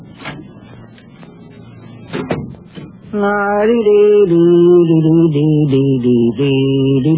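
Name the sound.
door closing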